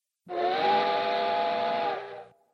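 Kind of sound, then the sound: vehicle, train whistle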